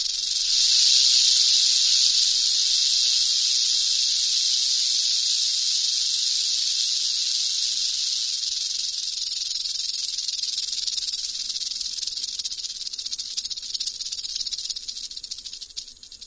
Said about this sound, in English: When vibrated, the rattle produces a hissing sound. Kevin Culver, an expert in natural sound recordings, provided this clip of a Mojave rattlesnake.